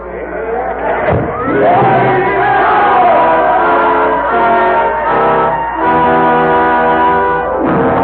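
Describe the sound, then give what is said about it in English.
A large crowd roars loudly and continuously, many voices shouting and bellowing together in a dense, sustained wall of sound, with a sharp thud near the start, then the roar fades away into silence. “Sidney Carton has found his destiny, and the roar of the crowd fades into the silence of 150 years ago.”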